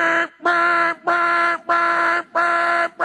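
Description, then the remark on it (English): A harsh, buzzy alarm clock blares in a steady repeating pattern: five loud, even bursts of a rich electronic tone, each separated by a brief gap, with no talking over it. “But an alarm by nature is like this.”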